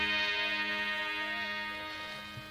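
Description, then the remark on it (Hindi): A clock ticks steadily and evenly at midnight, set against a sustained, ringing tonal drone that fades slightly toward the end. No one speaks. “अब मुझे घड़ी देखना चाहिए, रात के 12 बजे हैं।”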